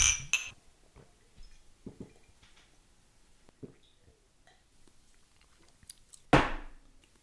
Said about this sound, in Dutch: Het ziet er in ieder geval uit als bier. Het ziet er vooralsnog vooral uit als schuim. Dank. Kijk. Laten we erop proosten. Proost.